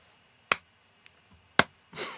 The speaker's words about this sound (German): Diesen Applaus bekommst du.